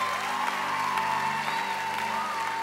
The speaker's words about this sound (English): And you should cheer for that. Really, you should.